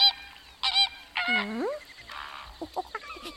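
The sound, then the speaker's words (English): A parrot on Golden Island squawks loudly, several harsh, rasping calls in quick succession, one bending downward in pitch, followed by softer chattering squeaks. “Here's our friend Parrot. Oh, perhaps he's come to say goodbye.”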